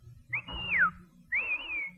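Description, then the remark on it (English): Two loud, shrill taxi-hailing whistles from a person whistling for a bus: the first rises then slides downward, the second holds a wavering high pitch, with a low rumble of background noise underneath. “No, I whistled for the bus. You did not. That was a taxi whistle.”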